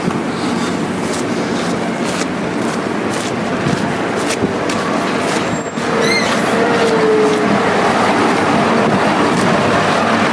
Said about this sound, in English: Oh, this is clutch and brakes.